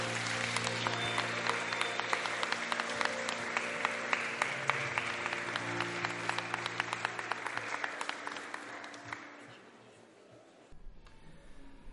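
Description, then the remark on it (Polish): Steady audience applause at a school ceremony in Wiśniew congratulating the school's top pupil, a dense patter of many hands clapping for about nine seconds before thinning out and stopping, with a low hum underneath. “Bardzo serdecznie gratulujemy i wielkie brawa.”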